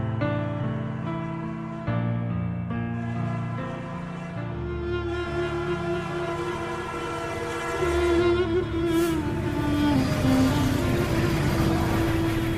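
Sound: train passing with horn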